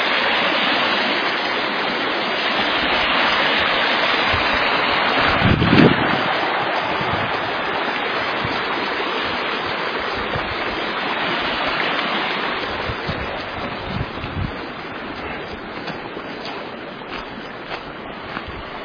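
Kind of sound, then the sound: nature, creek water flowing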